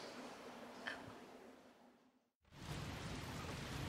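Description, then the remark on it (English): Steady rain patters on a 10x10 tent in a dense, hissing wash, cuts out briefly near the middle, then returns slightly louder and fuller. No one speaks. “If it rains any harder, I'll go inside. I got one of those 10x10 tents so I could find some peace up here.”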